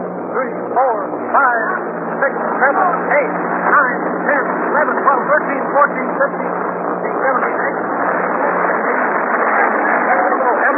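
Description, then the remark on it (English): Nineteen paratroopers shouting in a rapid, overlapping stream of loud cries as they jump from the aircraft, heard over the steady low drone of the throttled-back aircraft engine that runs throughout. “There it goes. You hear them shout?”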